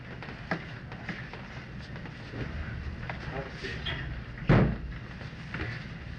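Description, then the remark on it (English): A door swings shut with a single solid thump partway through, preceded by a few lighter knocks and shuffling against a steady, murmuring room background. “Wonder if someone could close the door.”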